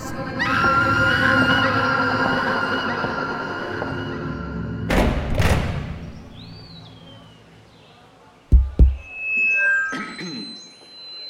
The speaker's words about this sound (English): people outside could hear we are now near a mental hospital because people are screaming. Their anxiety was so intense and they had very few means to calm down.